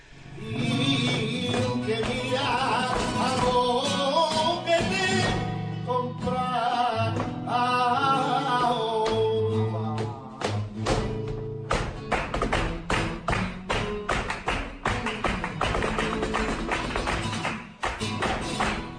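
Flamenco zapateado footwork: loud, rapid heel and toe taps in dense, driving bursts that intensify in the second half, played over melodic music with singing and guitar.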